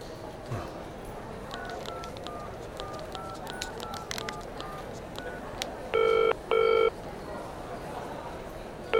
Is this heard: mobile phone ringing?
yes